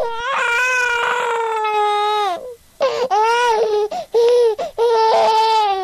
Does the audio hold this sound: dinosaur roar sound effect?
no